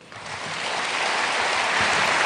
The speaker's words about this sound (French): Alors, bien sûr, vous l'entendez, ce ne sont pas des applaudissements francs, massifs, pleinement convaincus